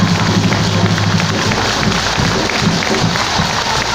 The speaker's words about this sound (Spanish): Un aplauso.